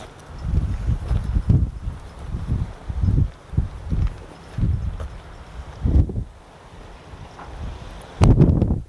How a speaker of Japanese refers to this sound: 船が出ていく。